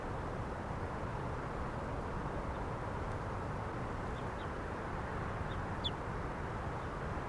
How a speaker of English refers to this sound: Some other birds in the background here.